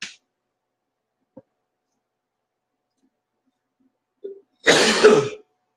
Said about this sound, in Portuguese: Ah, que se foda, agora eu tossi aqui mesmo.